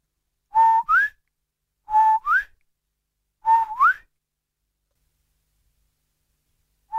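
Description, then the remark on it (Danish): A man whistles a two-note call while walking along the water, a steady lower tone followed by a rising higher one, repeated three times at a steady pace with pauses between, starting again at the very end. “Men mens de fleste, der fløjter efter en hund, fløjter en høj tone, efterfulgt af en dyb, så fløjtede manden først den dybe tone, og derefter den høje.”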